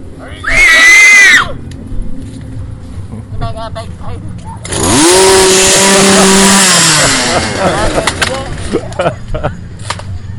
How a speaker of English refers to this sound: Or chainsaw.